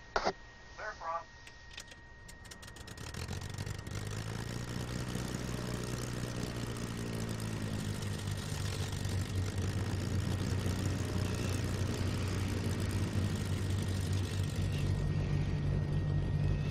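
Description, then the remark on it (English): Simulated twin piston engines of a B58 aircraft, from a SkySong Soundworks sound pack in Microsoft Flight Simulator X, are started with Control E. They crank and catch one after another, building into a steady, loud propeller drone with rumbling low harmonics that settles into a rough idle. “I'm just bought the SkySong Soundworks B58 sound, so let's try these out. I'm going to hit Control E to start our engines.”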